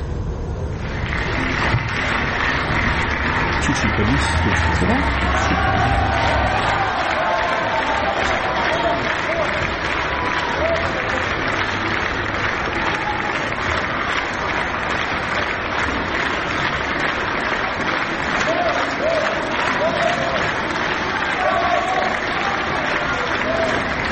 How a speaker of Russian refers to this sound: Давайте посмотрим, вот как вчера встречала публика вот вчерашнее представление. Это я снимала вот телефоном, ну, в таком виде, конечно, в любительском, но посмотрим вот эти аплодисменты, овации.